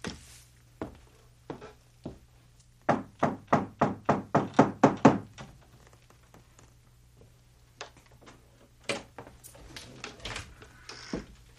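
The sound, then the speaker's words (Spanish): Someone raps on the front door of a large two-story house in Oakland in a quick, steady run of about nine loud knocks, with a few scattered single knocks before and after in an otherwise quiet space. “Avancé por el camino principal sin limpiar y llamé a la puerta.”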